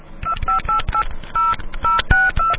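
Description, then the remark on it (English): A handheld non-memory tone dialer, played to the listeners' racks, beeps out a quick run of about a dozen short DTMF touch-tones, each a steady dual-pitched burst, with soft clicks and thumps between them and no talking. “I was playing tones to the listeners' racks. Always carry your tone dialer, non-memory version.”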